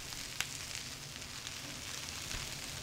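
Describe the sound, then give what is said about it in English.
Dumplings fry and sizzle steadily in a hot pan in the small kitchen of Ahan restaurant in Madison, a dense crackling hiss with one sharp pop early on, fairly loud, with no voices. “Water is boiling, chicken is roasting, and dumplings are frying.”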